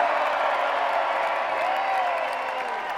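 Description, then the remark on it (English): A large audience screams and cheers on request in a steady, roaring wall of sound that holds for the whole stretch, with a high whoop or whistle briefly rising out of the din. “Well, all right, everybody, come on, one more time. Scream, everybody, scream. Let's hear it.”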